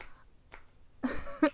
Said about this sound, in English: Yeah? Then slap me again. Again.